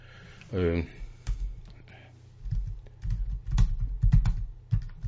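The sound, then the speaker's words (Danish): Crisp computer mouse clicks tap out in an uneven run of quick clicks over a few seconds, following a brief murmured voice near the start, as someone clicks into an archive to open a link. “Jeg klikker på gennem.”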